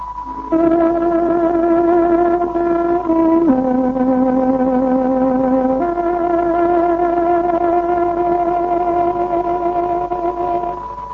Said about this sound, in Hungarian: Most pontos időjelzést adunk. Tárogatónk 19 órát jelez.